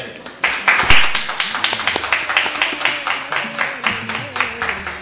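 A group applauds in tribute to a man who has died, with steady, rhythmic clapping that keeps an even beat for about five seconds, with a few voices murmuring faintly underneath.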